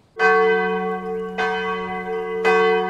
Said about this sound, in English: The church bells in the village of Limmen have been ringing on Sundays since the 13th century. And hidden in the shadow of this Protestant Reformed church is another piece of this country's rich history, dating back 400 years.